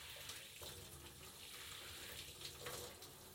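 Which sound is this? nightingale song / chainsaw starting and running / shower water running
shower water running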